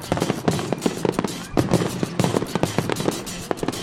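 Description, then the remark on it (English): A grand finale fireworks spectacular after a race at Gillette: a dense, rapid barrage of fireworks pops and booms in quick succession, loud and continuous, with sharp crackling bursts layered over a steady rumble. “And if crossing the line at the Patriots' 50-yard line wasn't enough motivation to carry you through the race, well, the grand finale fireworks spectacular certainly should do the trick.”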